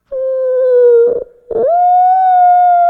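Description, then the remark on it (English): A person mimics a whale call with a long, steady, moaning hum, breaks briefly for a breath, then carries on with a second, slightly rising tone. Fairly loud, with no other sounds. “That's pretty good, wasn't it? That's a whale sound.”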